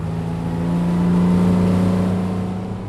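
A speedboat engine drones steadily across the water of Millerton Lake on the San Joaquin River in Fresno County, at Temperance Flat, the site of a proposed dam. Its low, harmonic hum swells slightly in the middle before easing off again. No one speaks over the motor.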